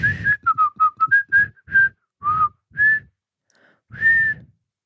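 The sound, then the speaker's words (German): A person whistles a short tune, a run of quick notes followed by a few longer held tones with brief pauses between them, with no talking. “Also erstmal, du sagst, du bist Musikerin, du kannst dich mal pfeifen, Mädchen.”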